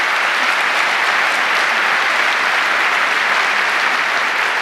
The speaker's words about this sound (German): Gut. Erstmal einen herzlichen Applaus.